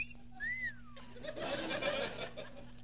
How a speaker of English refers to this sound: Oh, here comes Charlie Levere. Yeah, he stopped in front of the drugstore as usual. What a wolf he is. Here comes Peggy Williams. I bet Charlie whistles at her.